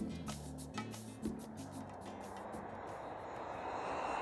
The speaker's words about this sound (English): The airplane started to descend.